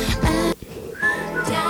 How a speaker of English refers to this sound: It's really good, like, when they start whistling.